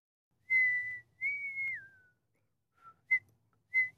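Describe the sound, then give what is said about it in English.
A person whistles a short tune: two sustained notes, the second sliding downward, followed by a few quick, clipped chirps, with no talking. “And can you stop whistling, please?”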